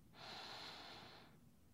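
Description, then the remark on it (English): A single deep breath drawn in through the nose during a relaxation exercise, a steady airy hiss lasting about a second, fairly loud, with no talking over it. “Breathe in and breathe out. Breathe in.”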